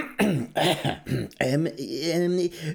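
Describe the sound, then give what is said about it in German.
A voice loudly and theatrically clears its throat twice, with voiced, drawn-out grunting bursts in quick succession and no other sounds around it. “Er richtet sich auf und räuspert sich zweimal.”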